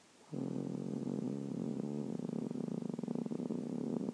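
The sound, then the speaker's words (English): A person imitates a cat's purr with a steady, rumbling, croaky vocal drone that starts abruptly and continues for several seconds, fairly loud with a rough pulsing texture. “Actually, it does sound like a proper purr, doesn't it?”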